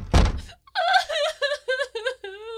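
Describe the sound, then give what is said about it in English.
A door leading to a hotel corridor is opened: a dull thunk of the latch, then a run of high, wavering hinge squeaks in short bursts, fairly loud. “I'm going to open the door and take a look.”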